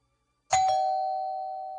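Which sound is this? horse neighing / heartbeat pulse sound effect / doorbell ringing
doorbell ringing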